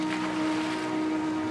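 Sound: boat moving on water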